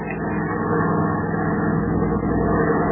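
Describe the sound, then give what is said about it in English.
The engine of a trim, bullet-shaped plane drones steadily as it climbs into a cloudless sky at dawn, piloted by Lieutenant Dick Miller with Clark Kent as observer; a dense low rumble with layered humming tones, fairly loud and even throughout, swelling slightly after the first moment, with no voices. “The following morning, as dawn breaks in the east, a trim, bullet-shaped plane climbs up into the cloudless sky.”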